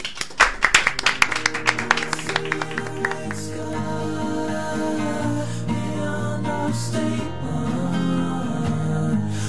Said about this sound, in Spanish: ¿Damos un aplauso?